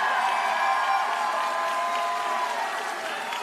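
At a political rally, a crowd claps and cheers steadily throughout, a dense wash of applause with shouting voices mixed in, staying loud and even before easing slightly toward the end.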